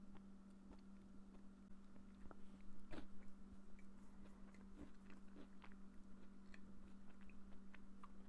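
Crunchy biting and chewing of a Reese's peanut butter cup with Oreo, with a sharp crunch followed by steady, irregular mastication clicks over a low constant hum; no talking.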